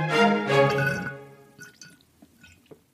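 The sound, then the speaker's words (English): A loud, slightly whistling slurp through a straw for about a second, fading into scattered gurgles and small bubbly pops as the last of an Equilibria greens drink is drawn up. “You hear that slurping, plant friends? That is me on my dregs of my daily dose of greens, courtesy of today's sponsor, Equilibria.”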